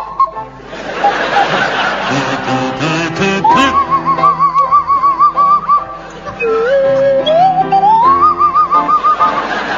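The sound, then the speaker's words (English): A swanee whistle, played by Graham Garden, slides and wobbles through The Blue Danube waltz alongside a buzzing kazoo played by Barry Cryer, loud, with an audience laughing and chuckling throughout. “Your song is The Blue Danube, and it's to feature Barry Cryer on the kazoo and Graham Garden on the Swanee Whistle.”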